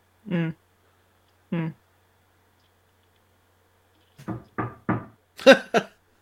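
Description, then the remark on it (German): A voice imitates knocking on wood, two separate knocks followed after a pause by a quicker run of five or six, fairly loud with silence between. “Nein, du musst schon auf Holz klopfen.”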